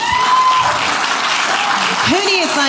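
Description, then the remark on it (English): An audience applauds steadily after being asked to clap if they have raised boys and girls, a dense wash of many hands clapping at once, with scattered voices and a few whoops rising over it. “And who in here has had boys and girls? Can you clap?”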